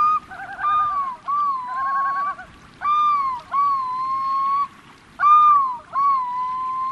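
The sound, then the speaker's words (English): A migrating loon calls repeatedly at a small lake outside Soldotna, Alaska, in late April: long, eerie wailing notes mixed with quavering tremolo phrases, coming in several rising bursts with short pauses between, clear over a faint outdoor background. “Our notice that summer has officially started comes in late April when we hear the first migrating loon.”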